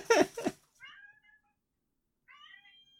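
A cat meows to be let out, one loud, rough cry followed by two thinner, drawn-out meows separated by a short pause, with no talking around them.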